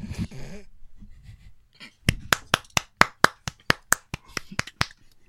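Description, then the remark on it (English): A short burst of voice, then a steady run of about a dozen crisp, evenly spaced single claps, a slow, polite golf clap that continues to the end. “Golf clap, golf clap.”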